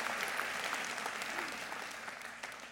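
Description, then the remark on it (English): Steady applause from an audience, many hands clapping together in a dense, continuous patter that holds fairly even and tapers slightly toward the end. “You should be clapping for that.”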